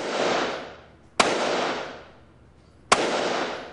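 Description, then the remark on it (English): Two sharp, loud shots from a Colt SP-1 semi-automatic rifle loaded with .223 rounds, fired from a sitting position at a paper man target, crack out about two seconds apart, each followed by a long rumbling decay, with the fading tail of an earlier shot at the start. No voices. “From a sitting position, Perkey leans the barrel against the rifle rest, squints his left eye as he looks down the barrel, and slowly squeezes.”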